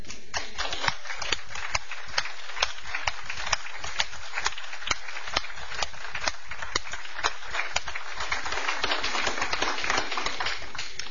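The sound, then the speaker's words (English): Steady audience applause of many hands clapping together for a district staff member asked to stand up, dense and irregular, holding at an even level for the full stretch with no voices heard. “stand up and take a round of applause.”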